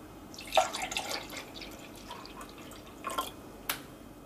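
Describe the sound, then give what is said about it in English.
Liquid jello mixture is poured into a milkshake glass, filling it about halfway, in short, quiet splashing bursts, a longer trickle early on followed by a few brief drips and pours, with no talking. “If you happen to have a glass like this, which is good for milkshakes, etc., get as many of them as possible, make as many colors as possible, and then pour this in. You probably want to pour it about halfway or so.”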